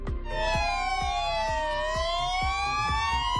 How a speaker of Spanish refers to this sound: En las últimas horas sus compañeros le rendían homenaje haciendo sonar las sirenas del parque y los camiones.